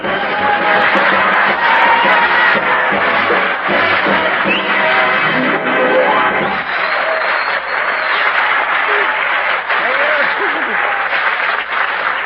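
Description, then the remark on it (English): Sustained, loud applause from a large studio audience, a dense wash of clapping that continues steadily for about twelve seconds with a faint murmur of voices underneath, as Red Skelton is introduced on the Raleigh Cigarette Program radio show. “I wonder what would happen some night if we didn't tell you to applaud when we told you to.”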